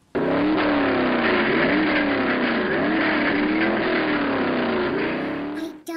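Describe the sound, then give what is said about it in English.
A NASCAR race car engine roars loudly for about six seconds, its pitch surging up and down as it revs, with no voices over it before it cuts off abruptly. “NASCAR. I like monster trucks.”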